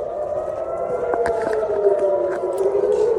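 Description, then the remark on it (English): A loud air raid siren in southern and central Israel, sounding during rocket fire by Hamas, wails steadily and continuously, its sustained tone slowly shifting in pitch, with faint clicks and background noise underneath and no speech. “Hamas has continued to fire rockets, with sirens sounding in southern and central Israel.”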